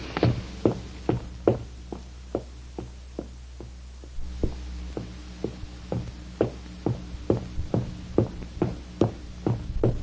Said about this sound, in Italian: Arrivai alla porta della missione evangelica. Era chiusa. Bussai.